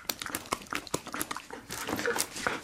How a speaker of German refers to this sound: Wir sitzen am Boden, ringsherum hat es eine Auslegeordnung von Sachen für die Reise und die Hündin Arab quetscht sich auch noch in die Mitte zwischen uns und will spielen.